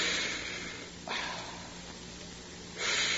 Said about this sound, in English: Now, I want you to breathe through your mouth.